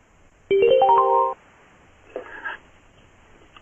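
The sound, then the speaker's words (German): A loud burst of electronic telephone tones, then a softer clatter and a quick click as a telephone handset is set down. “Jetzt kann ich, wenn ich jetzt das Telefon zurücklege.”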